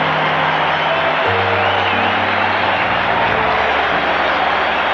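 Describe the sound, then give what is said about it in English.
Thunderous crowd applause at Maple Leaf Gardens for Boreas Alming as he is introduced as one of Sweden's starting six, many standing: a dense, unbroken wash of clapping and cheering that holds steady throughout, with a low droning hum underneath and no voices standing out. “And you can hear the applause here at Maple Leaf Gardens for Boreas Alming.”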